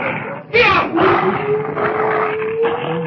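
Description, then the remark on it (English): A long, steady wolf howl holds one pitch for a couple of seconds, preceded by a harsh snarling burst and rough growls and yelps from dogs layered underneath, fairly loud, as wolves go after the dogs. “I get the chills just listening to them howl.”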